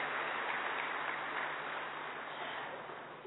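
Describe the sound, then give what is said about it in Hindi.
A crowd applauds steadily to welcome an arriving guest, a dense wash of many hands clapping at once that holds level for a few seconds and then begins to thin slightly at the end. No one speaks. “आपके स्वागत में हम एक बार तालियों से आपका स्वागत करना चाहेंगे।”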